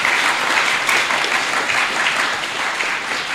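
A crowd applauds steadily, many hands clapping in a dense, continuous patter that stays fairly loud and even for a few seconds without a break.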